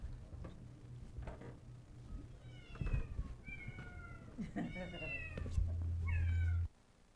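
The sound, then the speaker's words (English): Several cats meow insistently beside their empty food bowl, their rising, wavering cries overlapping in quick succession, with a steady low hum underneath and a brief rattle near the end. “Maybe you feel like these cats.”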